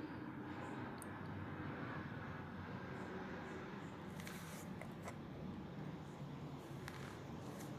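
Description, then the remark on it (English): A low, steady roar of a passing airplane overhead fills the whole recording, broad and rumbling, with faint clicks scattered on top and no one speaking. “Airplane. Jesus Christ.”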